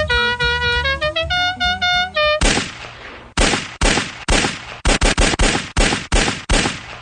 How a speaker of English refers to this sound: Not sure what all the gunfire's about. I don't know, but Duck.